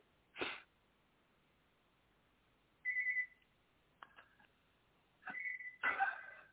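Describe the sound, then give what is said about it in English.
A phone rings from an incoming test call with short electronic tone bursts, a few seconds apart, over a quiet line. Scattered clicks and knocks come before and between the rings, and nobody speaks. “It's ringing.”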